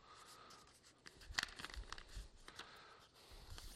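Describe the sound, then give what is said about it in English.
Paper handling: a thin sheet crinkles and rustles as it is folded, with one sharp, crisp crease partway through and softer scraping after it. No voices. “What they did is they took that very thin animal skin paper and they folded it twice.”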